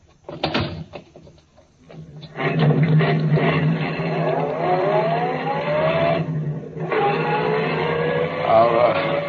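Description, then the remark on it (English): A few sharp knocks and a door thud, then a car driven by a policeman roars into life and pulls away, its pitch climbing steadily, dipping briefly as if shifting gear, then revving on loudly. “Okay, Furman, get in the car. I'll drive, Scott.”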